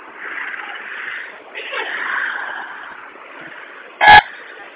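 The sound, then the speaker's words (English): A single short, loud car horn blast cuts through a steady wash of muffled traffic noise near the end, heard over a narrow, phone-like line; traffic is held up by hundreds of protesters going against the light and not letting anybody through. “They're going against the light, not letting anybody through. Traffic's getting really angry.”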